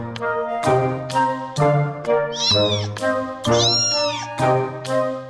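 A cat meows over and over, about six drawn-out, loud calls in a steady rhythm, with no one talking.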